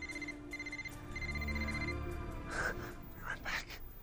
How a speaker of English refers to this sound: He goes over to the body and picks up the man's ringing phone. He looks back to Audrey, then makes the decision and answers.